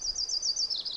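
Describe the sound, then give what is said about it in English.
A male yellow-rumped warbler, preening while he sings, gives a quick run of high, thin repeated notes that slur together into a warbling trill and shift slightly lower at the end, with no talking. “That's the song of a yellow-rumped warbler.”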